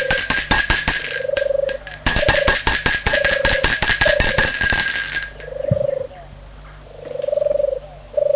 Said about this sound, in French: On y aborde par un portail ouvragé vers bouteille. Gilbert sonne à la porte du portail.